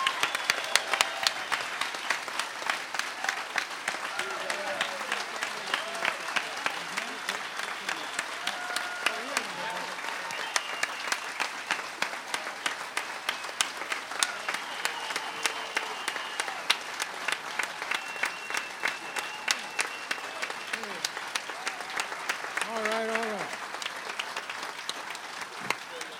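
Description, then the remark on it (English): A crowd applauds steadily for about half a minute as an 89-year-old African-American fiddler comes out on stage, dense clapping with a few faint cheers and voices rising over it. “We need to give him a round of applause.”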